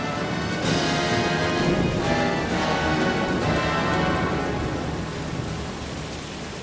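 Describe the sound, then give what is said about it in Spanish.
Heavy rain of the rainy season pours down in a steady, dense hiss across the whole clip, with a low thunder-like rumble underneath. Loud and constant, easing slightly near the end, with no voices. “Pero llegó la temporada de lluvias.”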